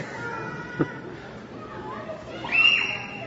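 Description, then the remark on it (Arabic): A young child in an audience lets out a brief, high-pitched squeal near the end, over the low murmur and shuffling of the crowd. “ولعلي إلى الآن لا أستطيع أن أقول الوالد هذا الطفل أسكت ولدك، لأنني سأتحدث عن الرحمة بالأطفال، لكن بعدها سأقول.”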